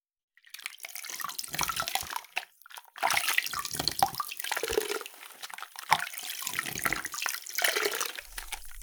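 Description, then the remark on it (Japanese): Lukewarm water runs steadily in broad, hissy bursts as shampoo is rinsed off, with brief pauses and splashy surges between pours, dripping and trickling textures throughout and no talking. “それでは、洗い流していきますね。”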